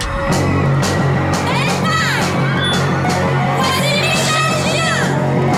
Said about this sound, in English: School kids stampede past him to welcome the French exchange students getting off a coach.